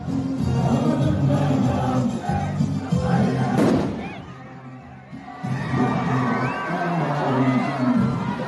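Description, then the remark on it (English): A large crowd gathered for a funeral in Lebanon murmurs and calls out in a steady, dense wash of voices. A sharp bang, a loud boom from an explosion, cuts through midway, the noise briefly drops, then the crowd swells again. “Crowds had just gathered for the funeral, and we heard a loud boom.”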